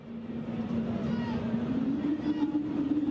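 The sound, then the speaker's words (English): A mysterious low hum drones steadily throughout, its pitch creeping slightly upward, over a constant rumbling wash of background noise at Tropicana Field in Florida, during a baseball game between the Tampa Bay Rays and the Detroit Tigers. “there are a few sounds on Caitlin's list that you might get a chance to hear without the help of an underwater hydrophone array, like the hum”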